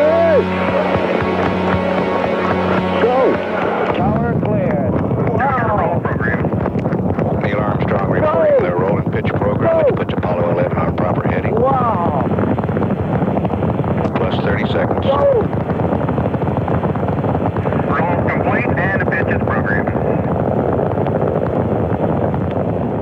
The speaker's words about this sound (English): We were very, very close. So the rocket, when it did take off, the impact was literally that. It was the impact of a wall of sound hitting us. The ground began to shake.